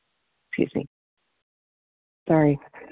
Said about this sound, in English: Needed to clear my throat. I apologize.